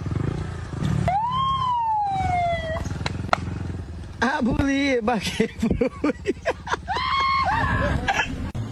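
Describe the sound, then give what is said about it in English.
A police car siren sounds loud, first a single falling wail, then rapid warbling yelp bursts, over a steady low rumble of traffic or engine noise. “Okay, so he sounds just like a goddamn cop car.”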